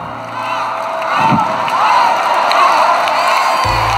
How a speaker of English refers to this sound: At the end of their thank you speech, the lights dimmed to a roaring crowd of celebrities that shouted, "Up, up, up," over and over again.